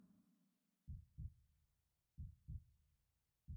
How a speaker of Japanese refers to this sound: こうやって 両耳を折りたたんでギューってやると水中にいるみたいでしょ。自分の心臓の音も聞こえそうでしょ。